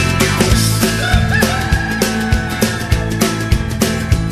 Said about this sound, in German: Er hat ein Loch im Hühnerstall entdeckt, der Hahn kräht, die Hühner gackern mit.